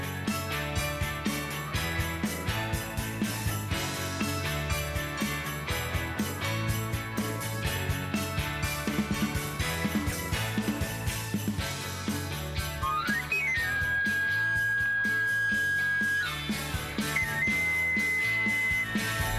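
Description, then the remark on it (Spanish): A chiflo, a shrill panpipe-like whistle, slides quickly upward and holds a steady high note, then returns with a second sustained tone, over continuous background music. “Es una armónica, es una flauta de pan, es un chiflo, finalmente.”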